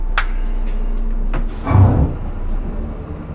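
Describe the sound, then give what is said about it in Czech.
A steady low engine rumble of a privately owned bus with a few short hissing bursts, like pneumatic doors, then the engine swells as the bus pulls away and drives on, with no talking. “Mám vlastní autobus, už 3. v pořadí.”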